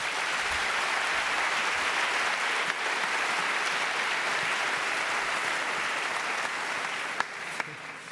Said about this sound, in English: Yeah, so please give him a big round of applause for his talk.